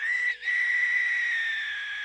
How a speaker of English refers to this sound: A bird call, eerily reminiscent of a human being in pain, rang out in the distance.